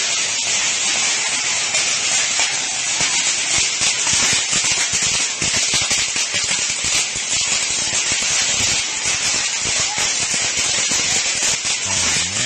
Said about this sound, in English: So if you want to know what it sounds like when a fireworks aisle is set on fire at a Phoenix Walmart, it sounds a little something like this.